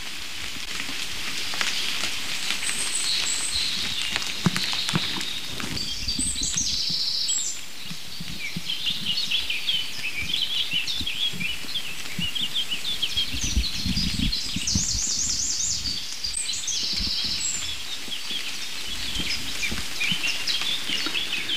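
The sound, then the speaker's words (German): A robin and a song thrush sing at once, the thrush to the left behind the listener, their bright phrases overlapping over a steady background hiss like light rain pattering through the woods. “Ich hangel nicht mehr zum nächsten Rotkehlchen und lass das Duett zwischen den roten kleinen Zweigsängern und der singenden Drossel links hinter mir.”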